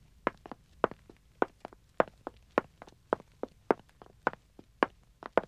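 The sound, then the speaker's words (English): Footsteps on floor matting in a hunting lodge: a steady run of soft, muffled, quiet steps with a slightly uneven rhythm, as if more than one person is walking. No one speaks. “Can't have carpets in a hunting lodge, but matting helps to cut down on clatter of footsteps.”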